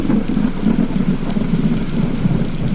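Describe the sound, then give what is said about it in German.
Heavy rain pours steadily and loudly while deep thunder rumbles continuously underneath, a dense, unbroken storm in Seville, Spain, with no voices. “Aber nun verspätete sich der Flug nach Sevilla, weil es vor Ort einen Sturm gab.”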